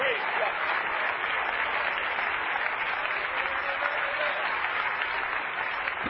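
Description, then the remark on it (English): An audience claps their hands to magnify the Lord, in sustained, dense applause that holds steady and loud for the full six seconds, with no spoken words standing out. “Oh, clap your hands and magnify the Lord.”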